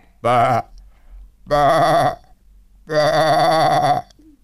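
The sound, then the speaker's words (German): A person imitates a goat, producing three loud, wavering bleats, each lasting about half a second to a second, with short pauses between them. “Ja, du hast recht, das war eine Ziege.”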